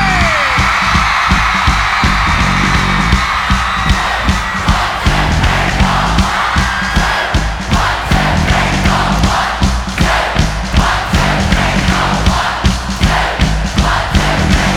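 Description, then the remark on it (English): A large concert crowd at Milton Keynes screams and cheers loudly and continuously, a dense wall of voices with shrill whoops rising above it, sustained for the whole stretch without pause. “I need everyone here at Milton Keynes to scream 1, 2, 1, 2, 3, 4, you're ready!”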